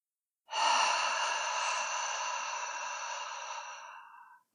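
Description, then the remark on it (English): A single long, steady whooshing exhale through the mouth during a breathing exercise, exhaling completely with the tongue pressing into the top of the teeth; breathy and airy, lasting about four seconds before tapering off. No talking during it. “Let's begin by exhaling completely through your mouth, making a whooshing sound.”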